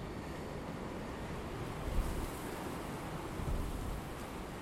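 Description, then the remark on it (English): Strong gusting wind on a mild 14 December day roars steadily as a broad, low rumble, swelling in two louder gusts around the middle and later on. No voices are heard. “Just strong gusting winds at the moment, but apparently there's to be shed loads of rain coming with that.”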